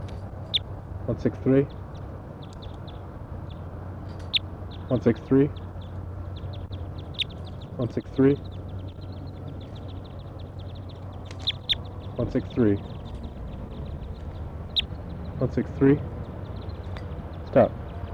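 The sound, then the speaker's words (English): A bird numbered 163 gives short, harsh, quacking calls about every few seconds, each a brief burst, over a steady low background hum, at a mist-net site at almost 3 p.m. “And I'm trying to get 163, and that's 163 there.”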